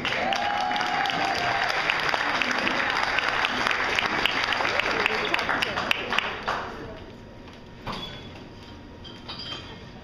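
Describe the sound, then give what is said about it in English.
An audience applauds loudly for a performer being introduced, dense clapping for about six seconds before tapering off into scattered claps and a few faint voices. “Good son, everybody, huge round of applause for”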